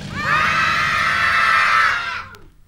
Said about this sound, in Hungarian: Ha fölemelem a kezem, egy nagyot kiabálunk, és amikor leeresztem, hirtelen abba hagyjuk.